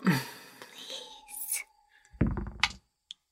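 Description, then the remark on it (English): Soft, breathy whispering to dice, followed by a brief rattling clatter as the dice are rolled for a saving throw in a tabletop role-playing game and settle, then a faint final click. “I have to whisper to my dice.”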